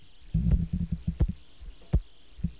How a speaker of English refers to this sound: Hear that clicking? That's your Star Edwards valve, right? Or St. Jude valve? St. Jude.